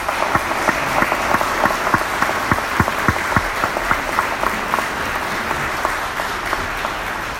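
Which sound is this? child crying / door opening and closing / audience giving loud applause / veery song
audience giving loud applause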